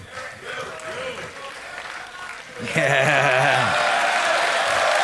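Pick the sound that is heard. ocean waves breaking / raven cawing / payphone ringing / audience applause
audience applause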